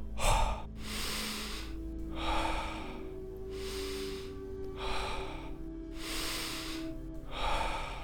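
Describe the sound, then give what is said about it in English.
Steady, peaceful breathing in a guided breathing exercise, with even in-and-out breaths repeating in a regular rhythm, about six airy breath sounds over several seconds, over a low background hum with no talking. “Peaceful breathing.”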